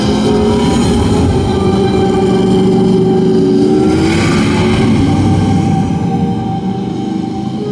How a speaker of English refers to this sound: It's more than a motorcycle. It's a Norton.